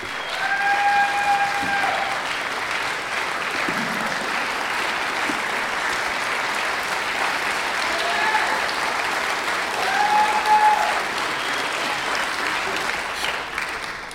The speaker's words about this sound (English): Everybody, please give a huge round of applause for my good friend